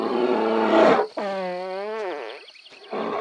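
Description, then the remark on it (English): A bear lets out a low, raspy fart lasting about a second, followed by a drawn-out tonal groan that sags downward in pitch, then another short rough burst at the end. “It's like in this recording, this bear farts and like enjoys it thoroughly afterwards.”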